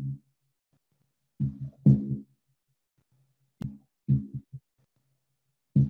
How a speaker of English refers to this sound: We can feel her heartbeat.